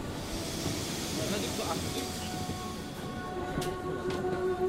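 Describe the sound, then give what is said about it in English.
Busy ambience of a metro station in Pyongyang: a steady rumble and hiss of a train running, with faint tonal whines and a continuous, fairly loud wash of noise throughout. “This metro station in Pyongyang has gorgeous mosaics on the ceilings and the walls.”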